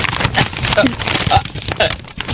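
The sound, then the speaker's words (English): Continuous rustling and crinkling of newspaper pages, a dry crackly texture that swells and fades in quick bursts for a couple of seconds. “Stop rustling your damn newspaper.”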